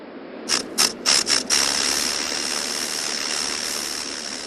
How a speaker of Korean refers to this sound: 그것은 비늘이 땅바닥을 스치며 내는 소리였습니다. 그래요. 뱀의 비늘이었습니다. 종려나무만큼이나 기다란 왕뱀이 슬며시 다가와 바로 우리 앞에 있었던 것입니다.